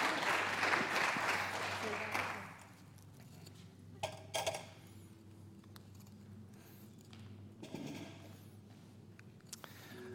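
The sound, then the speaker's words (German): A short burst of audience applause for people who told how they read the Bible, dense and fairly loud for the first couple of seconds, then quickly dying away to quiet with a few scattered claps and small knocks. “Und bitte um einen Applaus für das, was ihr jetzt hier erzählt habt.”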